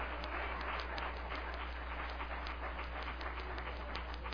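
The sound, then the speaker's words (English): A crowd of people clapping their hands for the Lord at a religious gathering, a dense, steady patter of many claps sustained for several seconds with no one speaking, set against a faint low hum. “If that's in your Bible, give the Lord a good hand clap.”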